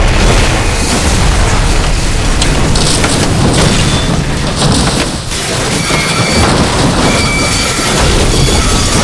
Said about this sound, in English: This is Rourke. Brace for impact. Brace for impact. We're almost down. Stay in the crash position. We're gonna hit.